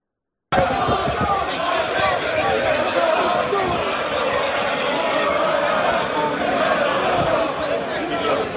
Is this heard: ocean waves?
no